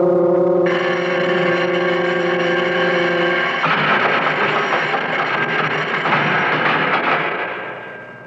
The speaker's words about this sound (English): Wow. The bell. It jars you, huh? Well, it's awful loud. You'll get used to it. Everything's loud in here. Bells, whistles, the cell doors.